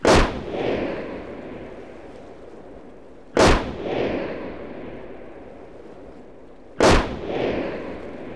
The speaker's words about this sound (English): The uncle handed the boy a rifle with a scope, and the boy aimed and fired. A sheep dropped to the ground. Her colleagues continued to graze, oblivious to the danger. More bullets flew. One by one, they died.